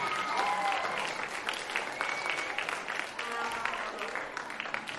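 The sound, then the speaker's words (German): Sustained applause from an audience welcoming the Gläserklasse 5, a class that has had their instruments for two weeks: a dense, steady patter of many hands clapping for the full length, with a few high whistle-like tones and faint voices mixed in. “einen herzlichen Applaus und ein herzliches Willkommen der Gläserklasse 5.”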